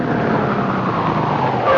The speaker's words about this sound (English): You will get that gun, and we will get in the car, and we will drive over the South Side Bridge, and you will throw that gun in the water.